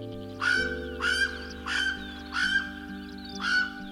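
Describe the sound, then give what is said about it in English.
A Hawaiian crow (alala) gives five loud, harsh calls in an even series, each a drawn-out nasal caw, over a low, steady sustained tone in the background. “Enter the story of the Hawaiian crow, the alala.”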